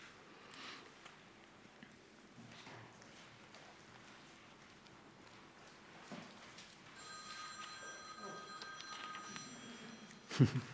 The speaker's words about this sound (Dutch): Mooi, hè? Echt zo'n mooie ouderwetse beltoon.